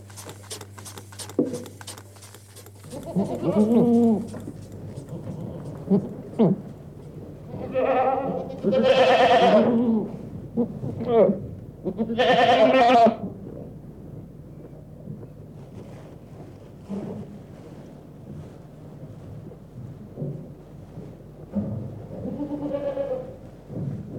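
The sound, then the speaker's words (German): Alpine goats bleat repeatedly, several wavering, nasal calls overlapping, some loud and drawn out, others fainter, over a steady low rumble of wind or background noise. “Milch von freilaufenden Almziegen, die sich ihr Kräuterfutter suchen können, wo sie wollen, ist auch für Milchkenner geschmacklich oft nicht mit Sicherheit von Kuhmilch zu unterscheiden.”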